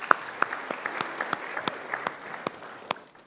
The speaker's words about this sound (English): Can we give him a little round of applause? I think they did really well there.